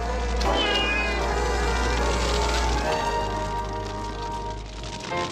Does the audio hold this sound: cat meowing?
yes